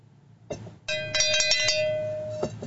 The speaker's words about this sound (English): well, hell's bells, give yourself a cowbell.